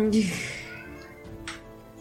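animal, cat meowing

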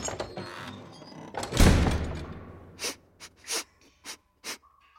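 human body sound, nose sniffing

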